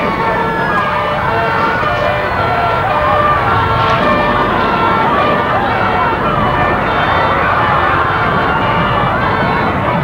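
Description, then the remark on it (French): Wailing emergency sirens from police cars and fire engines rise and fall over a dense, noisy street din, with voices mixed into the steady, loud background for the whole stretch. “Et maintenant la police, les pompiers.”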